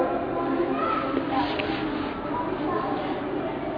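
Children's noisy chatter fills a room in a steady, indistinct murmur of overlapping young voices, moderately loud and continuous throughout, with no single clear voice standing out.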